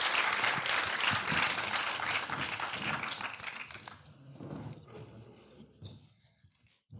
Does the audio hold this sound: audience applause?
yes